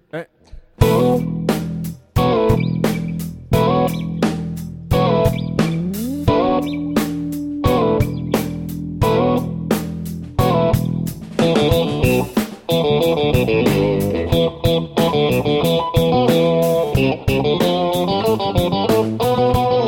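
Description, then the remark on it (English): An electric guitar song played live: loud, sharply strummed chords in a steady rhythm, with ringing sustained notes, growing denser and busier partway through. “You have your electric plugged in.”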